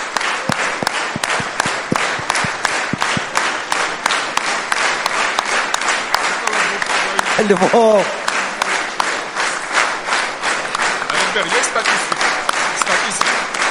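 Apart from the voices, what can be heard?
audience applause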